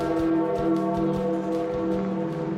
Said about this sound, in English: The bell tolling for Pope Francis at the conclusion of his funeral in St. Peter's Square.